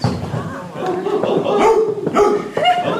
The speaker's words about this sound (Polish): Od północnej strony pies szczekał.